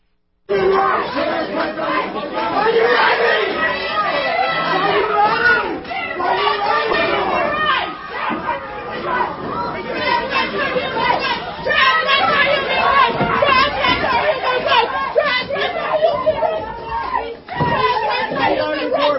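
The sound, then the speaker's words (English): A loud, agitated mob on a college campus shouts and screeches continuously while chasing Riley Gaines down a hallway, many high-pitched voices yelling over one another in a dense, chaotic roar that barely lets up for the whole stretch. “Footage captured amid the chaos shows Riley running down the hallway while being chased by this violent, screeching mob.”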